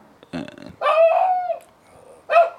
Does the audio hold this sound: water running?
no